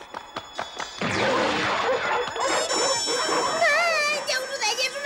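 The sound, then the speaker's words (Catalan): Five dogs blocking the way bark and snarl at once in a loud, chaotic burst, with crashing clatter and wavering howl-like tones rising near the end. “Cinc gossos els barren el pas.”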